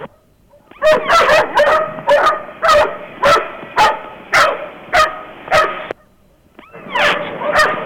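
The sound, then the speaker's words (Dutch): Several dogs bark busily and repeatedly, sharp loud barks overlapping in a rapid, uneven rhythm with a brief pause before they start again, with no one talking, on a street between the Nieuwezijds Kolk and the Dirk van Hasseltsteeg. “We liepen langs de honden, die staan nu tussen de Nieuwezijds-Kolk en de Dirk van Hasseltsteeg druk te blaffen.”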